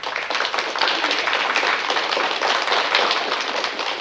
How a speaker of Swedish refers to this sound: Alltså, jag vill lägga in en applåd här. Då gör vi det. Ja, här är den. Varsågod.